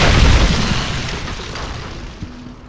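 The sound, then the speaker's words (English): A heavy, muffled crash of snow tumbling down a chimney into a fireplace, a deep thudding rumble that starts loud and slowly fades into a hissing, settling wash, with a small knock near the end. “Why is there snow everywhere? Came down the chimney.”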